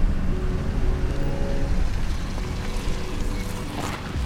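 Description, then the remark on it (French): An ambulance engine rumbles steadily, a dense low drone with a faint whining tone riding on top, holding an even loudness throughout with no voices. “Les moteurs de l'ambulance grondent.”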